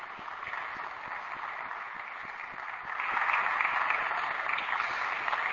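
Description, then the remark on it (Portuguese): A crowd claps steadily for singer Larissa Savchenko in a dense wash of applause that swells louder about halfway through and continues without any talking. “Batam palmas à nossa Larissa Savchenko, por favor, obrigado.”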